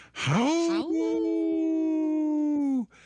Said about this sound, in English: It's funny, Lucy, the cat here in the studio, busted through the door and started, I don't know, it's not a howl. It's kind of a scary scream that she does now, but she was right on cue.